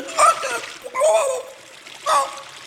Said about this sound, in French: À cet instant, l'araignée fait un faux pas et... Madame Bib glisse et tombe au milieu de la rivière.